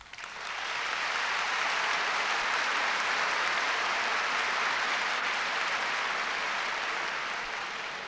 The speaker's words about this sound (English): And I believe that applause is an expression of the student feeling for your participation in that early forum, which has been followed by more successes.